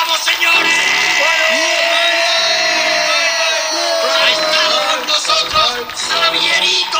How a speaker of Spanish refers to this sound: Y fue entonces cuando el grito de Arturo González Campos al terminar "Aquí hay dragones" me despertó.